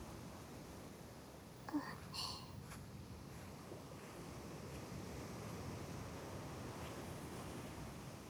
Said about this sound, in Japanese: 波で袖まで濡れてしまいました。